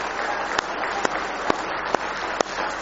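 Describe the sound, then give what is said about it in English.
A church audience claps hands in sustained applause of praise to the Lord during an evening service, a dense wash of clapping with a few sharper, louder claps standing out at roughly half-second intervals, as if keeping a beat. “Give the Lord a good hand clap of praise if you love Him.”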